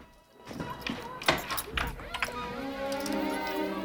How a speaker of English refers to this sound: She climbs stairs and goes to a door, which she unlocks.